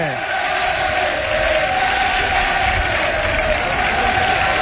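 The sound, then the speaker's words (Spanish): A dense, steady roar of a stadium crowd at the Estadio Nuevo Colombino as the Utrera team takes the field: Utrera fans applauding and Recreativo de Huelva fans whistling, with shouts mixed in, holding loud and unbroken for the whole stretch. “Salta el Utrera ahora también con los aplausos de su afición y los pitos de la afición recreativista.”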